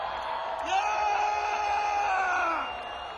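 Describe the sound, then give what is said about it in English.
An evening crowd down at the crossroads cheers and yells in a loud, sustained roar, with whoops and raised voices rising over the din for a couple of seconds before easing slightly at the end. “I'm telling you, what a crowd.”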